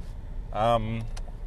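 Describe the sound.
A steady, even rush of hot air from a car heater hisses across the whole clip over a low rumble, inside a car on a cold morning commute to work, with a brief voiced sound from a person partway through.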